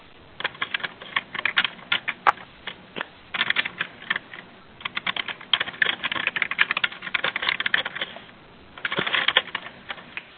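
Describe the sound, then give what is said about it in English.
Rapid clicking of keys on a computer keyboard, typed in bursts with short pauses between them, steady for the whole stretch with no one speaking. “I hear more typing in the background, so I'll give it just a moment in case that is an incoming question.”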